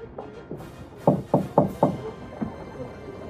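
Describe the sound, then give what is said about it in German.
Four quick, firm knocks on the door of a gunsmith's workshop in an even rhythm, followed by a single lighter rap, with a few faint taps before them. There is no talking. “Nanu, wer ist denn da vor der Tür?”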